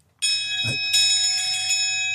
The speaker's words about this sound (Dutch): Je één druk op de knop is één keer bel.